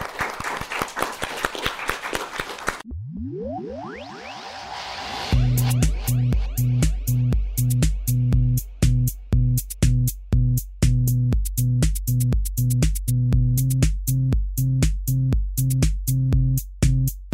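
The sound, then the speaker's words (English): Audience applause for a group of panelists rattles for about three seconds, a dense burst of many hands clapping, then cuts off into a rising synth sweep and a pulsing, beat-driven music track. “Well, we'll get a round of applause for all of our panelists here today.”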